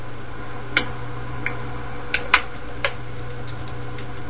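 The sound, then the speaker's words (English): An air conditioner runs steadily, giving a constant low hum and an even wash of noise, while several sharp, irregular ticks and clicks sound over it. No one speaks. “So you got an air conditioner running in the back? Yes, I do. Oh, that's what I hear.”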